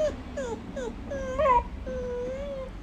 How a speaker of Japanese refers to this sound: この目をちょっとちっちゃくしてこっちを眺めて。くんくん泣いては右手ちょんちょんして、まだかなまだかな、お利口ちゃんに待ってます。